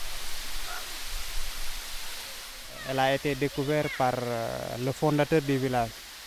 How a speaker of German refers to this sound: Wir sind in einer von hohen Felsen umschlossenen Bucht. Der Wasserfall ist die Sehenswürdigkeit von Lindefellow